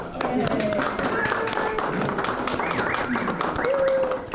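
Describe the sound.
An audience applauds in a steady, dense patter of many hands clapping for several seconds, with scattered voices and a few rising calls mixed in.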